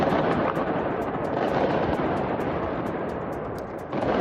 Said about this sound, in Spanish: Son petardos junto al hotel del Real Madrid esta pasada madrugada.